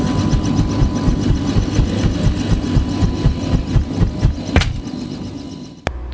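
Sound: helicopter engine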